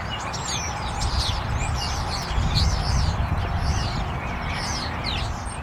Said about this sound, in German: Es ist einfach notwendig, dass die Vögel auf sich aufmerksam machen. Jedenfalls ist das ein bisschen deprimierend, die Vögel ankämpfen zu hören gegen den Lärm der Autobahn.